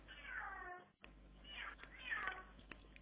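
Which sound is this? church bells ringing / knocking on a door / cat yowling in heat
cat yowling in heat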